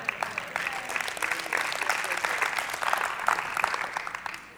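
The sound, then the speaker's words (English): A small crowd gives a quiet, polite golf clap: soft, scattered hand claps blending into a steady patter for several seconds, restrained, with no cheering or voices. “Oh, I because y'all gave me a golf clap, I took a golf swing.”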